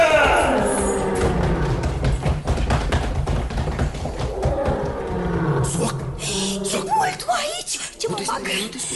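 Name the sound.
tiger roaring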